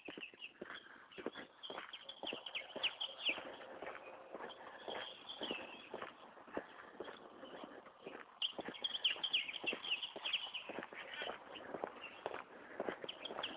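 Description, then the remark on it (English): A dense, continuous chorus of house sparrows and grackles: constant overlapping chirps, clicks and squeaky calls at moderate loudness, busiest toward the middle and end, with no talking. “What I'm hearing mostly now is house sparrows and grackles.”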